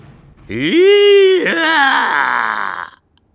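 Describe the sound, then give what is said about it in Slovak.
A loud, shrill scream from a house, with an eerie, animal-like quality, holds for over two seconds, wavers and breaks in pitch midway, then rasps on before cutting off abruptly. No one speaks. “Vtedy sa z domu ozval výkrik.”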